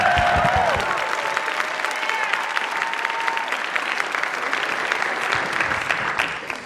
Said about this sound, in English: Let's give Rachel and Jenny a round of applause.